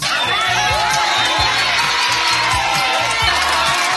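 A mother, neighbors and friends shout and cheer excitedly together in Herradura, Pinar del Río, Cuba, reacting to a wrestler winning Olympic gold in Paris: loud, overlapping voices and whoops in a dense, continuous roar of celebration.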